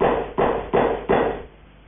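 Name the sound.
knocking on a door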